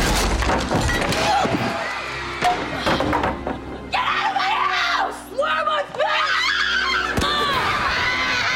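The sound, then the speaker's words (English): A person screams in loud, wavering bursts over a busy background of crashes, thuds and breaking noises, with the shrieks growing most prominent in the second half. “Why is … screaming?”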